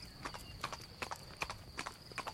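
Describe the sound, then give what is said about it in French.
Horse hooves clip-clopping at a steady trot, a black horse carrying a hussar officer of the King of Sardinia in full uniform, coming up from Cézanin on the road to Italy at Mont-Genèvre; a quick series of sharp knocks in uneven pairs, clear and fairly loud with no voices over them. “vit monter du côté de Cézanin un cavalier qui semblait un épidore sur un cheval noir.”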